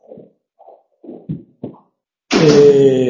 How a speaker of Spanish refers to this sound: Voy a cerrar la puerta, si no, no nos oímos.